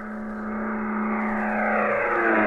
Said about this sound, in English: Captain, enemy plane sighted off the port bow. They're coming in at 4 o'clock.